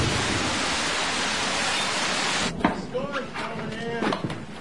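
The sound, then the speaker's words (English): A dense, steady roar of storm rain fills the first half, then cuts away as a person starts talking over a much quieter background. “We'll have to hide in the storm cellar”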